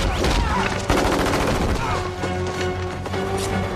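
Loud, rapid bursts of automatic gunfire from soldiers' weapons crackle almost nonstop. The shots overlap into a dense, chaotic barrage with sharp impacts and faint shouting mixed underneath.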